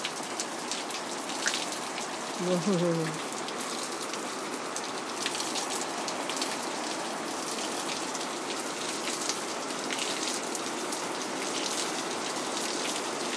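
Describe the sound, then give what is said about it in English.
Heavy rain on a windy night drums steadily on a roof, water coming off the roof in a dense, continuous patter with scattered louder splats, while a voice briefly exclaims once near the start. “Windy and rainy. Oh, harder.”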